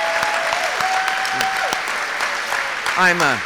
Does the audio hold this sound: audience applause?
yes